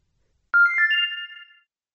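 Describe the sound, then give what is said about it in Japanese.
A mobile phone's incoming email notification tone sounds once, a bright electronic melody of a few quick rising notes that lasts about a second, clear with no other sounds around it. “相手の見えるところで携帯電話のメールチェックや返信はしない。 ブルル、ブルル。”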